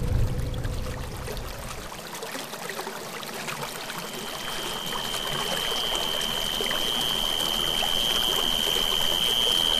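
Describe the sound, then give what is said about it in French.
River water flows and trickles steadily throughout in the Amazon forest, a continuous wash of sound, joined midway by a thin, high, sustained insect-like tone in the background. “Donc après un peu de route et de marche à pied, on se retrouve en forêt amazonienne avec ses rivières, sa faune, sa flore et la communauté quichua de Huasilatalag.”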